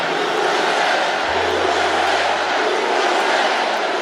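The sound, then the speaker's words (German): A large crowd at a Donald Trump rally in Pennsylvania chants "USA" as he takes the stage, a loud, continuous roar of many voices that stays steady and dense throughout, with a low hum briefly underneath. “Aus dem Publikum USA-Sprechchöre.”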